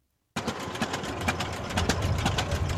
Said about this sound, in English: In Boscobel City Park, two tractors are racing very slowly. That's the point. The object is to see who can go the slowest without killing their engine. Three tractors have already crossed the finish line, so they've lost. We're down to two.